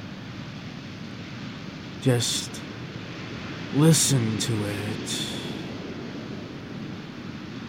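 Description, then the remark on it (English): A steady, hissing wash of ocean waves on a half-frozen beach rolls on continuously at moderate volume, with a person speaking a few brief words over it partway through. “Enchanting waves sound so soothing.”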